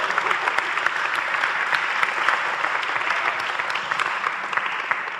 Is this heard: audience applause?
yes